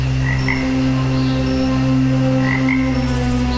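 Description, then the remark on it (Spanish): A dense chorus of frogs croaking continuously at night, layered calls overlapping in a steady, loud pulse with higher chirps rising now and then above the low drone. No voices. “Los árboles mecen sus ramas y una polifonía de ranas dan a la noche un clima sórdido y espeluznante.”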